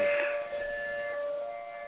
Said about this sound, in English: Is that the sirens?